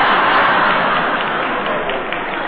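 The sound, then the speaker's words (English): A loud, steady downpour of heavy rain at night, a dense continuous hiss with no break, filling the whole scene with no voices over it. “Some night, huh? I like rain.”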